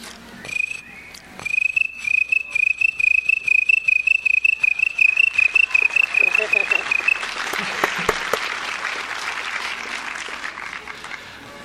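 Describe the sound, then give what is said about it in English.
Someone imitates crickets chirping at night with a rapid, steady train of high-pitched pulses lasting several seconds, followed by a wash of noisy, applause-like sound. “Well, during the nighttime, crickets come out, especially during the summer months.”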